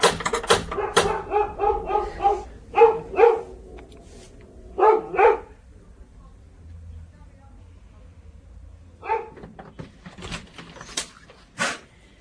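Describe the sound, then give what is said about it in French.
A female dog barks after a knock on a door in repeated sharp, loud bursts, with pauses between volleys and a final round of yaps near the end; quieter background sounds fill the gaps. “Excusez-moi, ma chienne a envoyé parce que vous avez frappé à la porte, je pense.”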